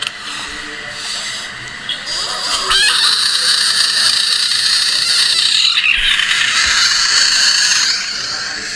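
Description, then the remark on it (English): A frog or toad lets out a loud, shrill, sustained scream that carries on for several seconds with brief breaks, with nothing else alongside it. “It's a screaming frog.”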